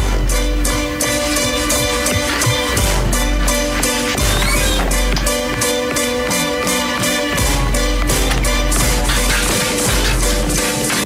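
A loud, upbeat show tune from the stage musical Annie plays continuously, with strong rhythmic percussive hits driving a full, dense arrangement from start to finish.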